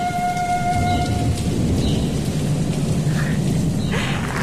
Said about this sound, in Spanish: Al día siguiente, vino una tormenta.